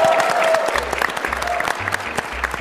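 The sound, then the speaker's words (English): A small group applauds at a PAX panel, a dense patter of claps steady across the whole moment, fairly loud, with a faint murmur of voices underneath. “Round of applause for everyone here.”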